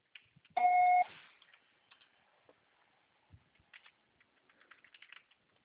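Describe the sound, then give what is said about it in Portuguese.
A single steady electronic beep, about half a second long and fairly loud, a voicemail tone signalling the start of message recording, followed by faint scattered clicks and tapping sounds. “Sua só será tarifado após o sinal.”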